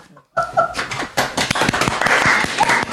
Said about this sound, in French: Ah, c'est la première fois que je suis applaudi pour une chronique.